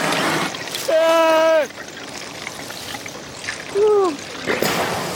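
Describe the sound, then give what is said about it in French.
A seal gives two voice-like calls over splashing water: a long, steady, moaning cry followed by a shorter one that bends downward, both strikingly like a human shout. “Eh ben, c'est un phoque.”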